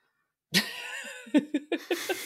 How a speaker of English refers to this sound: Cat.